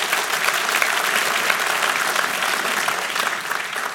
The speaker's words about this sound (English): And that for me, you wanna clap for that? We can clap for that, amen.